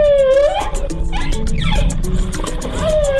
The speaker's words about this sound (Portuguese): E talvez seja justamente isso que esses sons revelam. Não apenas uma conversa entre mãe e filhote, mas a história de uma nova geração de baleias que começa a vida nas águas do Espírito Santo.